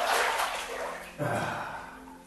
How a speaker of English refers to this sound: I slip into a massive white tub that's filled chin deep with fragrant, bubbling mineral water the color of rich bouillon.